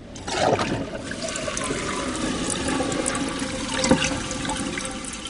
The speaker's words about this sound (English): This new generation of toilets goes from 1.6 gallons per flush to about 1.3 gallons and still meets performance guidelines for producing a clean bowl.